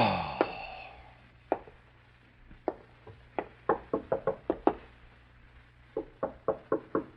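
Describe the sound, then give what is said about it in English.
Sharp knocking on an apartment's front door, a dozen or so raps coming in uneven bursts that grow quicker and more insistent, fairly loud over a low background hum, with no one speaking. “You stare at the front door of the apartment in startled silence. Your first impulse is to answer the door”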